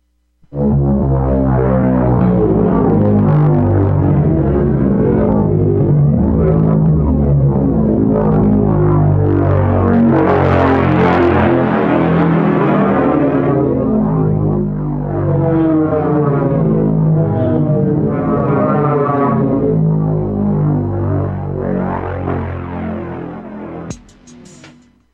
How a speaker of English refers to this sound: So I think I hear those planes coming now.